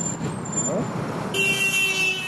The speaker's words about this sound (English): We weave in and out of snarled traffic, squeezing between giant diesel trucks and deep potholes. No street signs, no sidewalks.